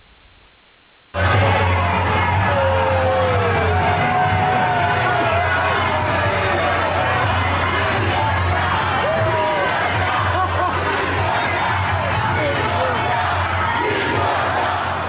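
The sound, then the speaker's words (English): A large crowd of Trump supporters at a Trump rally in Virginia chants and shouts in unison at a CNN crew after a brief quiet start, a loud, dense wall of voices with rhythmic yelling and jeering of "do your job" and "tell the truth" that continues steadily throughout. “And so they're shouting two things: do your job and tell the truth.”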